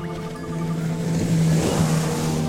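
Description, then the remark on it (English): A small motorboat travelling up a river to village churches: its engine drones steadily, its hum rising slightly as water rushes and splashes around the hull, with no voices. “Patrice took us up the river in his small boat to those churches.”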